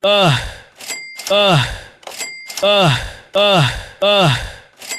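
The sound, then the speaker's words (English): Two soundboard effects combined: a voiced sigh, falling in pitch, repeats four times in a steady loop, each one cut with the bright metallic ding and rattle of a cash register. “I added a few new sound effects to the board. And I realized here we have this cash register”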